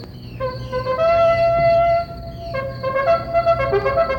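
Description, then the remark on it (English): A loud, brassy hunting horn blast, sounded by Sabu the gun bear as an alarm while waiting at traps for a wild iguana boar, holds one steady note for over a second, then breaks into a second run of shifting, wavering tones with no voices. “Yes, sound the alarm, Sabu. It's our hunting horn.”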